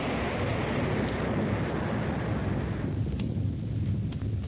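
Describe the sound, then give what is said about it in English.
A geyser erupts a column of hot water and live steam in a loud, continuous roaring rush, then its hissing upper edge thins partway through as the eruption begins to stop. No voices. “A geyser? Is that what that column of water is? Yep, hot water and live steam.”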